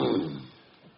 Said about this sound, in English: Nothing. Just clearing my throat.